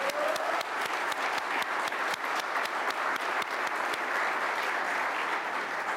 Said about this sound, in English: And a very special thank you to the members of our Color Guard, soldiers also from our Joint Base Meyer, Henderson Hall, Headquarters Battalion. Let's give them an Army Strong round of applause.